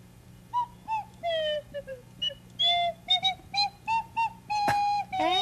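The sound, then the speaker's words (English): A slide whistle plays a quick, playful run of short tooting notes, each bending and swooping in pitch, about a dozen in a row, clear with no talking. “Would you like to try a slide whistle, Miss Pilgrim?”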